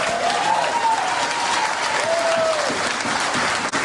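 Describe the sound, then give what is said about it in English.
A crowd of white Republicans applauds steadily and loudly, dense clapping filling the whole stretch without a break, with a few faint cheers and whistles rising through it. “Woo-wee, listen to them white Republicans clap.”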